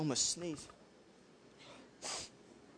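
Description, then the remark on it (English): A short breathy voice sound, then a brief pause and a single sharp, muffled burst of air, like a sneeze held back and stifled. “Almost sneezed.”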